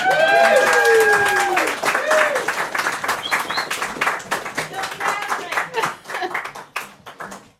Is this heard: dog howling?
no